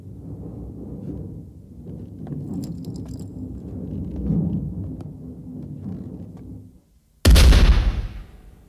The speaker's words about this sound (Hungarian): És ezzel a lövéssel az új szelek zászlós hajója még egyszer beleírta nevét a történelembe.